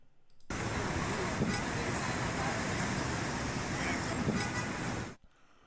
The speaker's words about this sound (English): Busy. I can't quite make it. It sounds like static for me. Busy, but it's a busy, busy street. Busy, okay. Busy street.